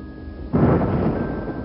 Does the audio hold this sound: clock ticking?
no